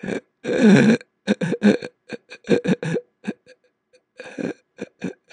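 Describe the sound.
A person breathes out once, then draws air in through a series of short, choppy, hiccup-like gasps, imitating vocal cords intermittently spasming closed and segmenting the inflow of air into little bursts. Fairly loud, with brief pauses between bursts.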